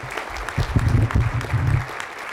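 An audience in Detroit claps together in steady, dense applause for Fannie Mae's Tim Mayopoulos, swelling briefly and then holding, heard clearly with no one speaking over it.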